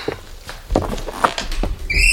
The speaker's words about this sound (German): Ich kann nichts dafür. Die Tür quietscht so.